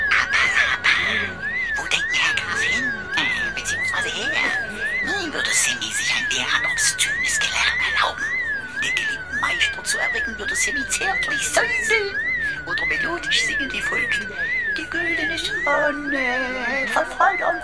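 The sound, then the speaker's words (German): A high electronic alarm siren, a warning signal at a penal colony airlock, warbles up and down in quick, steady cycles throughout, loud and continuous, over a chaotic bed of shouting voices, screams and clattering noise. “Plötzlich ein entsetzliches Geräusch. Immer und immer wieder. Alarm. Eine Sirene.”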